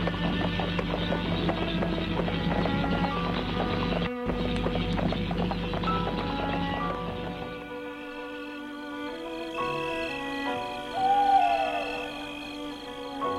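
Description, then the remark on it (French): Hooves of a horse-drawn carriage entering a countryside manor estate clip-clop in a steady rhythm with a rumbling wheel noise for several seconds, then give way to sustained, ringing tones; no one speaks. “Et là, le fiacre entre dans le domaine.”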